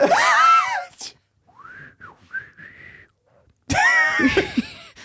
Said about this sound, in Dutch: Maar oké, één van ons drie gaat zo meteen fluiten. En dan laat in de comments even weten wie van ons drie dat was.